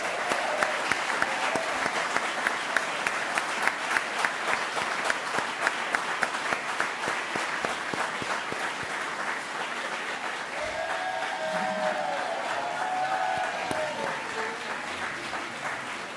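Steady, sustained applause from an audience honoring the teams that worked on community projects, a dense crackle of many hands clapping that holds for about sixteen seconds, with a few faint voices and whistles rising near the end.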